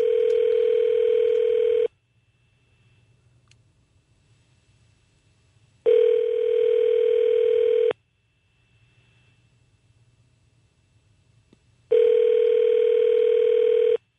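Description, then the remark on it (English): A telephone ringback tone on an outgoing call to the U.S. Embassy in Damascus, Syria, three steady two-second rings separated by about four seconds of silence, loud and clear over a quiet line with no one talking. “I would not expect anybody to answer the phone there, but you never know.”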